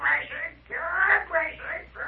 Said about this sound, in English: What about that parrot we keep hearing? He's my pal, he is. My pal and my watchdog. Ain't now anybody able to come within a mile of us without Belshazzar letting me know.